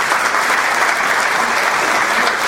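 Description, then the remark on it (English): A crowd claps steadily in sustained, dense applause that holds at an even, fairly loud level for the whole stretch, with no voices standing out. “You know who deserves a real round of applause tonight?”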